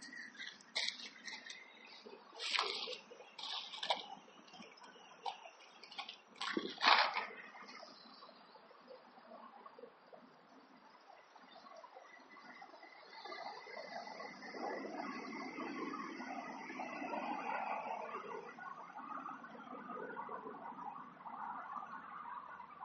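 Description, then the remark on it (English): Running water flows steadily with a soft, broad rushing hiss, with scattered sharp clicks and splashy taps in the first few seconds before settling into an even, continuous wash. No one speaks. “While you're listening to the water and while you're relaxing, just try to think of something, or maybe nothing, I don't know, depending on which way you're going to go.”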